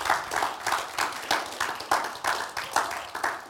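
Audience applause from a crowd, clapping in a steady, roughly unified rhythm with pulses about every half second, moderately loud and continuing throughout without any voices.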